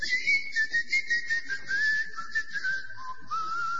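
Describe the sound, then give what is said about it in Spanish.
Someone whistles a wavering, gliding tune, moving in short rhythmic pulses for several seconds over a faint low rumble, with no talking. “Usted llega a la isla de Tracoda y oye los silbidos.”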